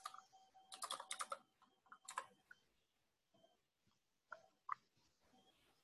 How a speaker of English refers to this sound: So while I'm typing this up, does anybody have anything they wanted to bring up to go over before we have the string discussion?